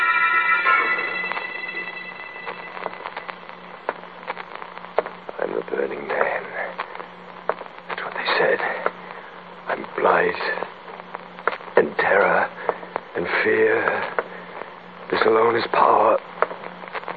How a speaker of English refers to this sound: Listen. I hear static.